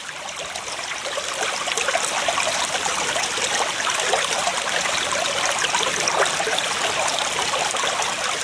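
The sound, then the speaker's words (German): A mountain brook beside a meadow babbles and splashes steadily over rocks, a continuous bright rush of water with no voices, holding an even level throughout. “Habt ihr schon mal einem Bach zugehört?”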